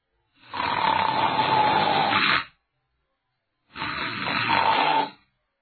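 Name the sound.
performer imitating snoring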